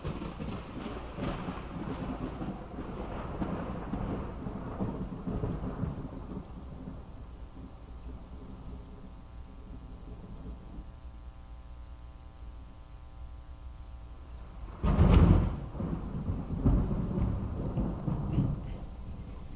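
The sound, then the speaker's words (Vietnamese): Steady, dense rain pours down with a low background hum, then a sudden loud thunder crack rolls in near the end as the downpour continues. No voices. “Phong và Trâm vừa bước lên thềm nhà thì trời đổ mưa to.”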